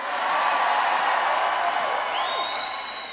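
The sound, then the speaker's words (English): A large crowd cheers steadily, a dense roar of voices with scattered shouts, and near the end a single high whistle rises and holds above the noise. “Very, very realistic sounding AI for those crowds.”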